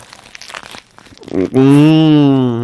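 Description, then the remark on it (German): Someone bites into a juicy döner kebab right up close to the microphone, with crinkly, crunchy chewing and wrapper noises for about a second, then a long, loud hum of enjoyment. “Und könnt ihr euch vorstellen, wie unglaublich saftig dieser Döner ist, in den ich jetzt gerade ganz nah am Mikrofon reinbeiße.”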